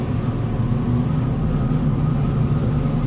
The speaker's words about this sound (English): Engines restarted, sir.